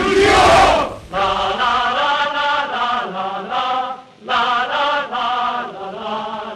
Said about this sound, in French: Moi, j'entends cette foule crier « Union » et nous découvrons, grâce à la séance « Cours d'histoire » ici au Festival du court-métrage de Clermont-Ferrand, ce film sur ce défilé du 14 juillet 35.